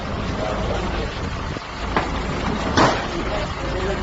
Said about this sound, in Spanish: Escucháis el sonido de los furgones de la Policía Nacional en los que llegaban los detenidos y nada más. Y es que no ha habido nada que lamentar, ningún incidente a la llegada de los detenidos a esos juzgados de Ribeira.